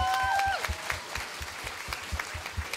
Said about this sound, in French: Est-ce qu'on peut les applaudir, Église ?